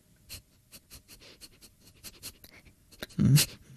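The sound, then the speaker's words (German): A person imitates a dog sniffing with a rapid series of short, breathy nasal sniffs, fairly quiet, ending in a louder, longer snuffling burst. “Hundeschnüffeln.”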